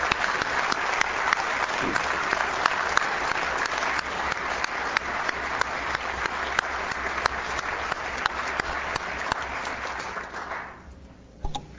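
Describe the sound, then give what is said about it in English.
People in a legislative session applaud visiting guests from a representative's community steadily for about ten seconds, a dense, even wash of clapping that tapers off quickly near the end, followed by a brief sound and then quiet. “So I'd like to, if you would, give them applause.”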